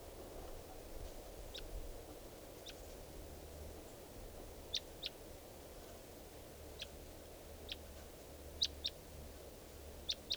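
wild bird calling

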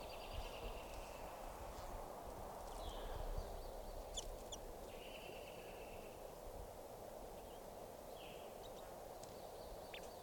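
wild bird calling

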